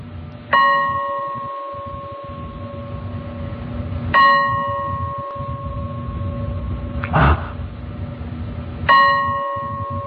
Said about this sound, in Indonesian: Jelas sekali aku mendengar suara ketukan lonceng 3 kali. Ya, itu suara lonceng atau bel dari lantai 1 di ruang tengah.